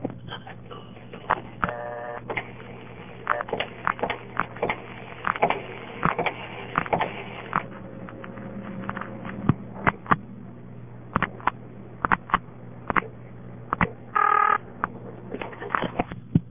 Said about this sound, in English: Then I'll dial it again and stop the sender in the middle and then dial manually, and you'll hear the step switches working and everything. Now I'll stop the sender.